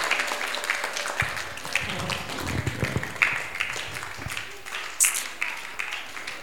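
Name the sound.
audience clapping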